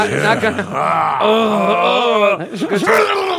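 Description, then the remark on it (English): A voice imitates a dolphin with loud, squeaky, wavering squeals that swoop up and down in pitch, holding for a few seconds before breaking into short chirps. “Dolphin noise.”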